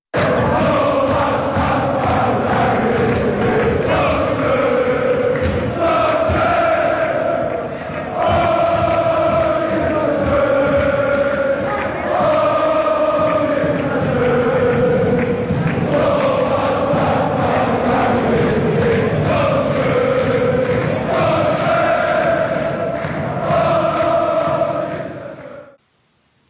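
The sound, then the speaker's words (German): A large crowd of football fans in Kaiserslautern celebrates a win after the match, voices chanting together in a steady, rhythmic unison that swells and repeats for about 25 seconds before cutting off abruptly. “So, das war der Jubel in Kaiserslautern.”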